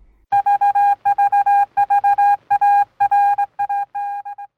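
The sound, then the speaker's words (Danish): A rapid series of loud, steady electronic beeps in short bursts with brief gaps, a strong mid-pitched tone like telephone keypad dialing, tapering off in shorter beeps at the end. “Vi synes, man skal bære over med biplydene.”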